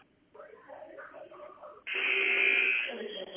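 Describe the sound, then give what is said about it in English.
A loud, harsh basketball arena buzzer blares for about a second during a game, cutting in abruptly after a stretch of faint, muffled talking, and it tails off into crowd-like noise. “And you know when you hear that buzzer after you shoot an air ball, usually it's for you, right?”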